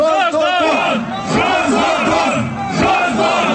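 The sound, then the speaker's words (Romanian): A large crowd at a unionist rally chants in unison, many loud voices shouting a rhythmic slogan against Igor Dodon without pause, the massed sound staying strong and steady throughout. “La meeting s-a scandat și împotriva lui Igor Dodon, care în ajun a declarat că această adunare unionistă ar putea avea un caracter nu doar provocator, ci și violent”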